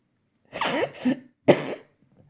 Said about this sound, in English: Scrooge wheezed a cough and grabbed the poker to stir the slumbering embers.